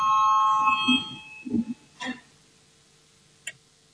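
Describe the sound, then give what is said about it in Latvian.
A loud, steady electronic parliament voting bell rings for about a second before a vote, then cuts off, followed by a few soft low thumps and a brief faint tone. “Lūdzu zvanu.”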